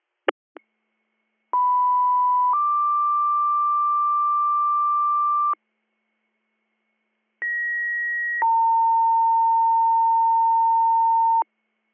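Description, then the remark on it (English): Fire department pager alert tones for a residential fire alarm in Wilmot Township: two sequences of steady electronic tones, each a short pitch followed by a longer held pitch, separated by a brief silence, loud and clear with no talking. “27 second page, Wilmot Township, 37 Franklin Drive, residential fire alarm.”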